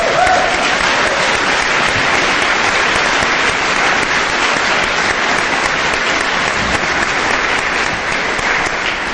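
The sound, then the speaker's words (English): A crowd applauds loudly and steadily for about nine seconds for a man's 41st birthday, a dense wash of many hands clapping at once with no break and no voices standing out. “His birthday today, and so we'll give him an applause.”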